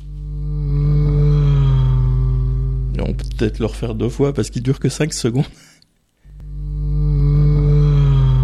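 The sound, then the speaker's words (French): A loud drone of a passing engine, played to demonstrate the Doppler pitch shift, with a steady humming pitch, breaks off while a person speaks, then returns for a few more seconds. “C'est ce phénomène qui, par exemple, modifie le son d'une source en mouvement comme la sirène d'une ambulance ou le moteur d'une voiture”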